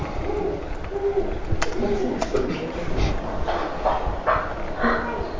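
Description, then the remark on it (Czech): A chicken clucks in a string of short, irregular calls over a steady rumbling background, moderately loud, with no talking. “Slepice, enter.”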